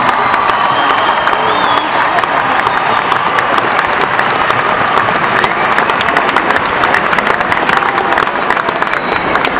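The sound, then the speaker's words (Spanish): A large audience applauds spontaneously at an event of the Organización Sionista Argentina celebrating the 66th anniversary of the State of Israel, dense clapping mixed with scattered cheers and whistles, loud and sustained without pause, with no speech rising above the crowd. “Y con este aplauso espontáneo en nombre de la Organización Sionista Argentina, esperamos que disfruten muchísimo de este espectáculo.”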